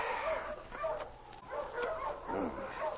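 Several dogs, among them Husky and King, bark and yip repeatedly in a rapid, overlapping chorus, fairly loud and continuous throughout, with a few higher whining yelps mixed in.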